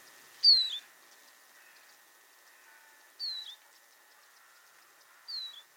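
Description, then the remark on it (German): A Eurasian siskin gives three thin, high, plaintive calls, each sliding downward, spaced a few seconds apart over a faint steady background hum. The first call is loudest. “Und was ihr dann hört, ist so ein bisschen trauriges, absteigendes Dü.”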